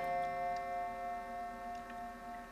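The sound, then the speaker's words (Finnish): A clock ticks steadily at a moderate pace, set against a sustained, humming tonal drone that fills the background. No one speaks. “Se oli kohtalon kello.”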